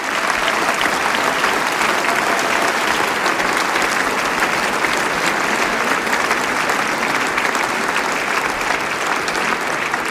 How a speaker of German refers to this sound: Begrüßen wir's mit einem großen Applaus.